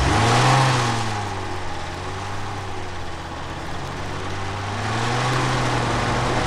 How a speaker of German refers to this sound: Und jetzt startet der Käfer von der ….